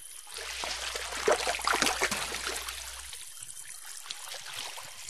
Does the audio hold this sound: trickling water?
yes